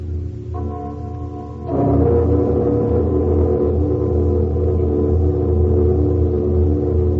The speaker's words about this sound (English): The bell is suspended. It is ready, Master. Let the bell be struck. It has a mighty voice, though tongueless.